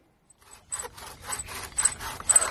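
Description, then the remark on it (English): A bow drill rasps against wood in quick, steady back-and-forth strokes, about seven in a row, growing louder, with no voices, as someone works it to get an ember. “It's hard work, the bow drill.”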